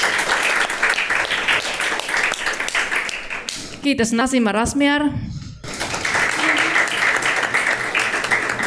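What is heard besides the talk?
audience applause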